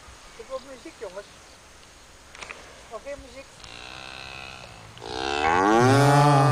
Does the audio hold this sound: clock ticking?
no